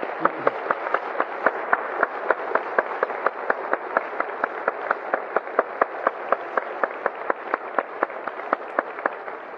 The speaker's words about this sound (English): Let's just really give them a round of applause if you appreciate what they've done.